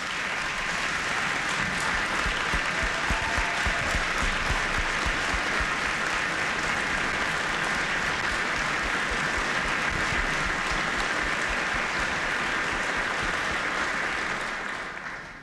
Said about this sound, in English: I ask you to give her a big round of applause.